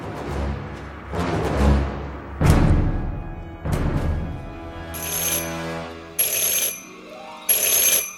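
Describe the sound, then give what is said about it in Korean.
Four heavy, low booming thuds are followed by a loud, shrill bell that rings in three short bursts, harsh, with no voices; the bell announces a visitor at the door. “갑자기 침묵을 깨며 요란한 벨소리가 울렸다.”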